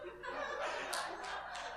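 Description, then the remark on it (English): A crowd applauds steadily for a couple of seconds, the dense patter of many hands mixed with scattered chuckles and laughter from the audience. “Thank you for that applause.”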